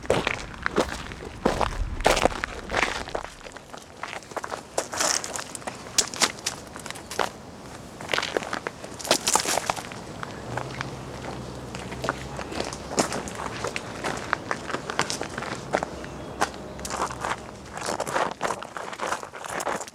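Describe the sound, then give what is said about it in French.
Footsteps walk and trample steadily over crunchy, crackling ground, a continuous run of irregular, scuffing steps with occasional brief rustles, moderately loud and without talking. “Marcher, fouler, frotter, s'éclabousser, enjamber.”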